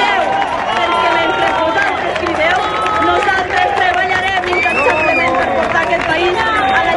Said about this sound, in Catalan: Els xiulets, crits de botiflers i traïdors van tornar al Fossar i la republicana Marta Vilalta va respondre com va poder des del faristol.